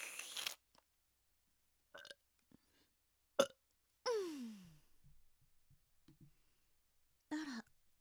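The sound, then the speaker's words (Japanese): A drawn-out burp slides downward in pitch, surrounded by several short breathy mouth and throat sounds spaced out across otherwise quiet stretches, with no talking. “ゲップ出ちゃったわ。”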